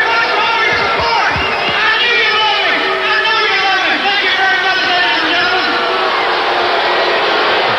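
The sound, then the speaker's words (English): A large arena wrestling crowd jeers and roars with hostility at the wrestler Honky Tonk Man, a dense, loud wall of overlapping shouts and boos that never lets up, with individual voices cutting through now and then. “God, just listen to that. I mean, they hate that guy.”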